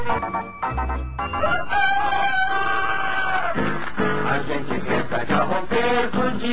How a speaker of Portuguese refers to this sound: O galo canta pra saudar o sol, mas quando canta o galo diz somente se eu tivesse dente, só usava Eucalol.